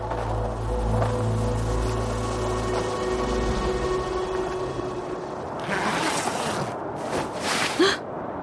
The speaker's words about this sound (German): Und die geheimnisvolle Gestalt kommt immer näher. Man hört schon leise ihre knirschenden Schritte im Schnee.